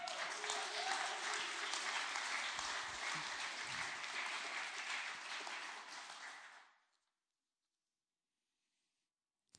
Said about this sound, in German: Können wir Jesus mal einen Applaus geben?